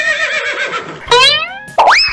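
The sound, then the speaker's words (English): A loud, wavering horse whinny in three bursts: a quavering falling call, then two sharp rising squeals, with no talking. “A horse? Why a horse? Because you can ride it.”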